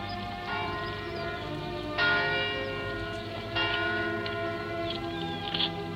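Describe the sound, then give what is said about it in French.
Church bells in Rouen ring the Angelus, their sound carried on the breeze, a few fresh strikes every second or two over a dense, sustained metallic hum, sounding somewhat distant with no voices. “L'Angélus qui sonne à Rouen.”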